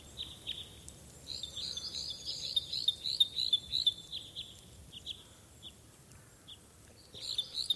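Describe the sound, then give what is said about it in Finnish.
Repeated short, metallic chip calls from a parrot crossbill sound in rapid bursts, moderately loud over a faint outdoor hiss, pausing briefly before resuming near the end. “Isokäpylinnun erottaminen hieman yleisemmästä sukulaislajista, pikkukäpylinnusta, tuottaa usein päänvaivaa.”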